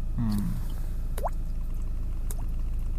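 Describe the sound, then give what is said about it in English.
Two hollow, rising water-drop plinks made by flicking a cheek, about a second apart, the second softer than the first, over a low steady background hum, in freezing cold morning air. “I've been practicing the thing where you flick your cheek and make it sound like a water drop.”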